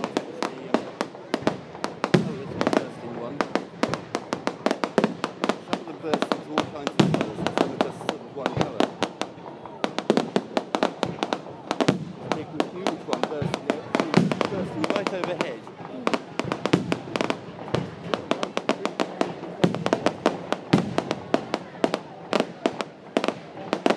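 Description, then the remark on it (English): Fireworks, many of them red, burst and crackle almost nonstop by a statue, a dense barrage of sharp pops and booms of varying strength, with murmuring voices faintly mixed in beneath the steady clatter. “Lots of red ones going up.”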